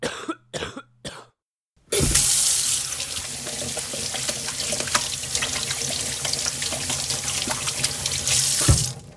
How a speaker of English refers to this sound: You heard a person coughing due to a viral disease, hand washing, an important method of reducing viral transmission